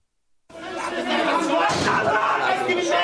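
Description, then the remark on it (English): A loud, agitated crowd of angry family members shouts and clamors after a brief silence, banging on the doors of Cairo's central morgue and demanding to be let in to see and collect bodies; voices overlap densely, with a heavy bang against a door cutting through the noise partway in. “Banging on the doors at Cairo's central morgue, angry family members demand to be let in to see and collect the bodies of those killed in yesterday's shooting.”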